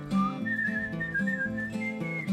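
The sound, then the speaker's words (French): Someone whistles a sustained, gently wavering tune at the top of the mountain in Montreuil, clear, over a steady low hum for the whole couple of seconds, with no talking. “Le sifflement en haut de la montagne.”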